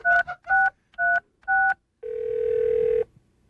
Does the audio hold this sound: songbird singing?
no